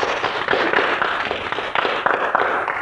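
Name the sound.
audience applause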